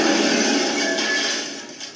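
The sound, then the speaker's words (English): A window being smashed: a loud, bright crash of breaking glass, a dense burst of shattering that rattles on for a couple of seconds and tapers off with a few scattered tinkles at the end. “Now that was just an innocent window, and you saw what I did to that!”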